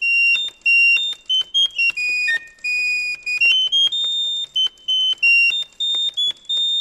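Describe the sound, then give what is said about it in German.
A serinette bird organ from a museum plays a run of high, pure, whistling pipe notes, quick trills and short held tones hopping in pitch, with brief gaps, sounding much like a chirping songbird. “Klingt tatsächlich wie Vogelgezwitscher.”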